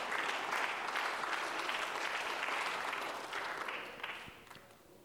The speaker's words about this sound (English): Let's give God one more hand clap of praise as you're seated.